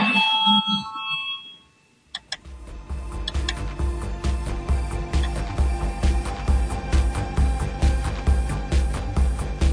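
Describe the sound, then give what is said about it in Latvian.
A voting bell rings in a parliament chamber before a vote on the finance minister's proposal number 76. A brief tonal chime opens, then after a short pause a loud electric bell rattles continuously with rapid, even strikes to the end. “Lūdzu, zvanu, balsosim par 76. finanšu ministra Reira priekšlikumu.”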